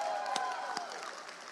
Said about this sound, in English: Everybody clap for my backup dancers this morning.